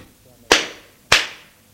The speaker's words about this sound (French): Elle se met à rire. Son père la gifle.